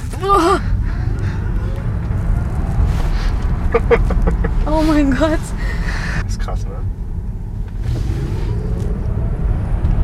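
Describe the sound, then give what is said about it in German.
A car accelerates hard at full throttle, reaching 150, its loud, steady low roar of engine and road filling the whole clip while people exclaim excitedly over it. “So, jetzt aber einmal ganz durchdrücken. Wow. Und merkst du, wir fahren schon 150.”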